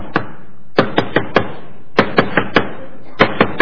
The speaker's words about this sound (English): Knock with authority. So, you know, I get up, I go to the door, I look out, and it's the policeman.